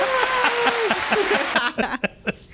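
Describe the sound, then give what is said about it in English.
A canned burst of crowd applause played from a soundboard, dense and loud, with a whistle-like tone riding over it, lasting about a second and a half before cutting off as people start talking. “Well, once he starts talking, put the clap.”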